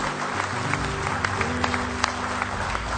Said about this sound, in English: Give him one more hand clap of praise tonight if you love him.